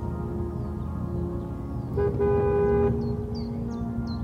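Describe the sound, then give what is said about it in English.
A car engine purrs low and steady as the car comes up a road, with a single short horn toot sounding partway through and faint high chirps near the end. “The purr of a car came up the road, and he could see his own breath in its headlights.”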